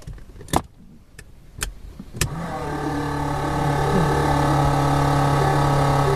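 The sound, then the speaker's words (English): A few sharp clicks and knocks as fuel is pumped into the cylinder, then a small propeller airplane engine catches and settles into a steady, droning hum that builds slightly louder and holds without pause. “So now he's getting it started. Fuel into the cylinder. Pumping fuel into it. Around. Clear. It's starting.”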